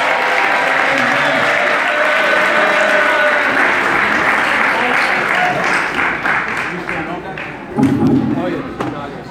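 An audience breaks into sustained applause, a dense wash of clapping that holds steady for several seconds before thinning out, with a brief louder burst near the end.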